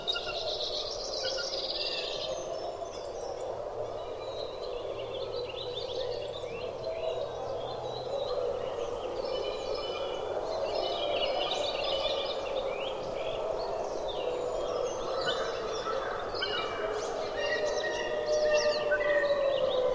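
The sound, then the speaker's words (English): Two wolf packs howl nearby in Algonquin Park around 6 in the morning, with temperatures down in the 20s: long, overlapping, wavering tones from all directions in a steady chorus throughout, with birds chirping and twittering in the background. “and wolves began howling from all directions. Two packs nearby making their collective cases.”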